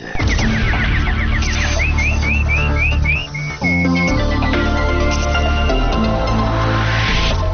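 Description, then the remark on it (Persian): Nightingale-style warbling: a quick run of bright, rising chirps repeated in a rhythmic series, loud, over a steady musical backdrop with no talking. “اینک مشروب خبرها با چهچهی همکارم بلبل.”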